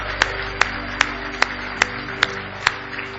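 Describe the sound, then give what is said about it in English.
An audience claps hands in unison in praise of the Lord, about seven sharp, evenly spaced claps in a steady beat over a low, sustained droning tone, with no talking. “Give him a big hand clap of praise if you love him tonight.”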